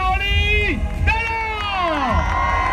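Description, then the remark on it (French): A dense crowd cheers and shouts around a sailor making his way to the stage of the Vendée Globe race village, with high excited voices rising and falling in overlapping whoops over a steady roar of noise. “Comme un écho de revanche pour l'homme le plus heureux du monde qui s'offre ensuite un bain de foule jusqu'à la scène du village du Vendée Globe.”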